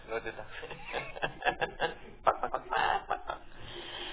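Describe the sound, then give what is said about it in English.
A rooster crows, a drawn-out call partly buried under people talking over a compressed, lo-fi line. “You have a chicken in a row.”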